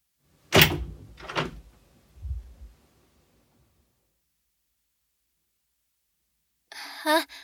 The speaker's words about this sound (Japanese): 確かにドアを少し開けるだけならバレないかもしれないけれど。君がそう言うのなら分かったわ。それじゃ開けるからドアの後ろに隠れていてね。